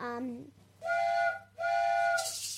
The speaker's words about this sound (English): It looks like a train's arriving.